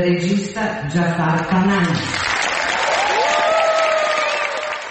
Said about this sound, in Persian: سالن اصلی جشنواره فیلم ونیز به احترام آقای پناهی ایستاده به تشویق او پرداخت.